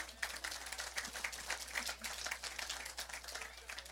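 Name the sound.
audience clapping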